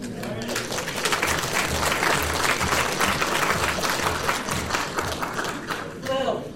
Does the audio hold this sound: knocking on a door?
no